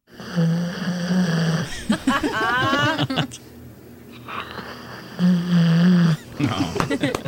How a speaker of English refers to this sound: All right, so this is your dog snoring. Yes. This is right next to you in the middle of the night.